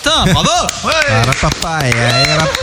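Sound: hand clapping applause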